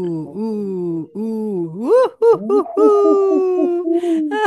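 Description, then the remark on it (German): A voice imitates an owl's hooting with a run of drawn-out, wavering hoots that slide up in pitch, loud and close, with several short hoots bunched in the middle. “Das ist ja die Eule, ne?”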